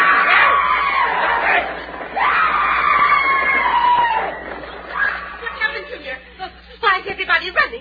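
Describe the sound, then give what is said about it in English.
A mob runs and shouts as it rushes for meat, with loud overlapping screams and yells that rise and fall in long sweeping cries, then break into shorter, choppier shouts and chatter toward the end. “Everybody running.”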